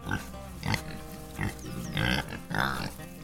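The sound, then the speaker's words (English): Several pigs grunt and squeal in quick, overlapping bursts inside a pig barn holding 12,000 pigs, a busy, moderately loud chorus with short pauses between calls and no voices. “We ran a barn of 12,000 pigs, and Bryson was always out there helping.”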